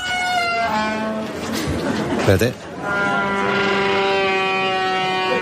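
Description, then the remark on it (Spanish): A door creaks in two long, groaning, tonal squeals that sound almost like an animal's bleat, with a brief spoken word between them. “Pero este, la puerta que hace ruido es efímera.”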